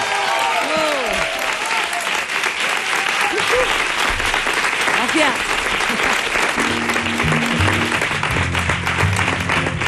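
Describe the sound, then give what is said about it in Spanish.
Loud, sustained applause from a large audience after a live music performance fills the scene, a dense wash of clapping with scattered cheers and whoops rising above it, continuing steadily without pause. “da miedo interrumpir estos aplausos dedicados a …”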